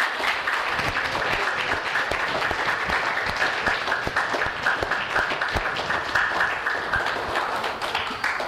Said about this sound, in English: Now I think we can do a little better with an applause.